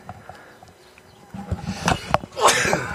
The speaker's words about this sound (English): Sneezing a little dust out right there. Got a little dust out.